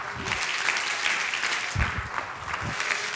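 audience clapping hands

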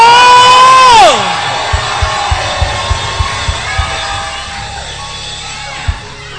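audience screaming and cheering

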